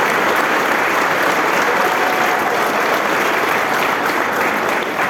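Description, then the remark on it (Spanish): Loud, sustained applause from an audience for the young people of the cooperative La Nueva Esperanza, a dense wash of many hands clapping steadily throughout without a break, with no voices standing out. “gracias a Dios, hoy es la cooperativa La Nueva Esperanza, a quienes quiero brindarle un fuerte aplauso, a todos los chicos que forman parte de esta realidad.”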